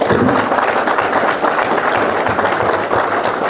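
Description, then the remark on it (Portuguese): A group of people at the close of a meeting applauds themselves steadily, a dense, even patter of many hands clapping at once, loud and sustained for the whole stretch with no voices over it. “Então, pessoal, vamos dar uma salva de palmas para nós mesmos, tá?”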